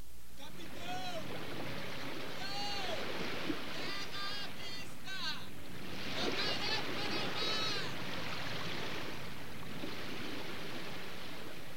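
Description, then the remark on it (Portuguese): A sailing ship moving over the sea, with a steady wash of waves and wind throughout and scattered high, wavering cries or creaks rising above the rushing water. “Eles viajavam de navio procurando riquezas em outras terras.”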